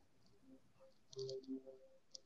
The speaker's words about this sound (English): Can I pause you there for a second? Someone's like rubbing paper in the background or something like that. It's been driving me crazy.